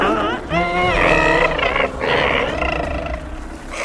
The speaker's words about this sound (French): Les deux enfants s'éloignaient de Kalmada lorsqu'ils entendirent un grognement intense.